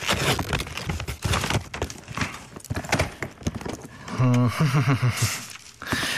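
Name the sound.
unwrapping gift wrapping paper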